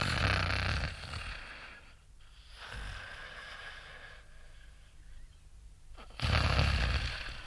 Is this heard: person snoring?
yes